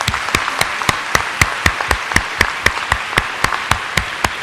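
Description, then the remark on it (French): An audience applauds, interrupting a debate, a dense wash of clapping with a steady, evenly spaced beat of sharp claps running through it at about four per second. No voices are heard. “S'il vous plaît, n'interrompez pas non plus par des applaudissements.”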